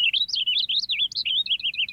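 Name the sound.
finch song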